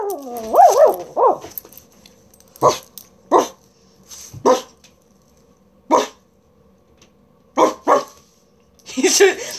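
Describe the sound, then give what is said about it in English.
A person imitates a dog at a small pug-faced dog named Barney, opening with a brief wavering howl, then letting out a series of short, sharp barks at irregular intervals, fairly loud. “And every time I barked at his face, his little, he's got like a pug face, so his little snout kind of like poofed up, like he was thinking about barking”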